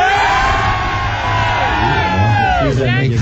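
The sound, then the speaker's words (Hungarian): A large audience roars and cheers loudly all at once on a count of three, a dense wall of shouting voices that holds steady for a few seconds, with individual yells rising out of the mass near the end. “Na mutassátok meg, hogy 15 000-en vagytok, mert nekem úgyse hiszi el senki.”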